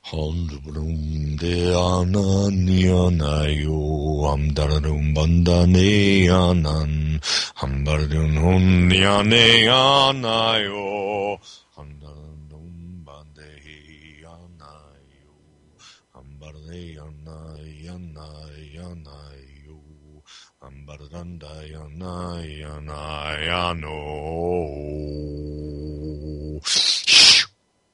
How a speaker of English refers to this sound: As always, allow your breathing to deepen while I do the toning to bring the energies together so they can come in.